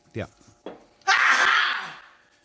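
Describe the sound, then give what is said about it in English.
A grandmother sneezes in quick succession, with two short voiced catches followed by one loud, explosive sneeze that trails off with a shrill, wheezy tail; her sneezing goes on for about two minutes. “It's just a gran who's sneezing a lot, like a lot of people are today.”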